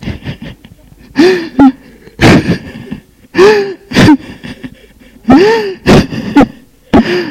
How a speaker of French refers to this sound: L'on entend sangloter. Puis, hurler et jeter des choses à terre.